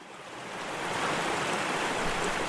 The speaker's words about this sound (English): Picture yourself standing by a creek or a small river flowing through a forest or a glade of trees.